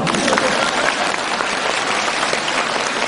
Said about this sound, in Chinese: 鼓掌